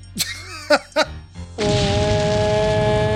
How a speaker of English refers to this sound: Slow motion jumping from explosion.